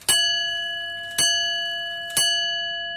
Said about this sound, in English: But in actual fact, all it's doing is counting the swing of the pendulum. And it then has a series of wheels for the bell, which will be triggered off by the hands on the hour, and you'll get something like that.